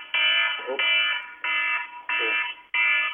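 A smoke alarm beeps loudly and insistently in a steady rhythm, five long piercing tones with short gaps between them, and a faint voice briefly murmurs underneath.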